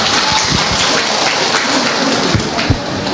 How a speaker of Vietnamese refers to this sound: Rồi, chúng ta cho một tràng pháo tay hôi người chị em này.